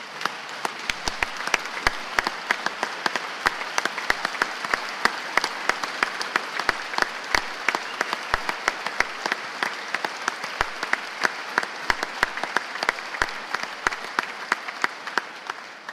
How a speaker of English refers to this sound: Would you please join me in giving these JAG students and specialists here with us today a round of applause?